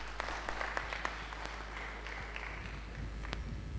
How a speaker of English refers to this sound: Let's clap for him.